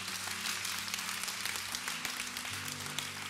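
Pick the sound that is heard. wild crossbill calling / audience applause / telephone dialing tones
audience applause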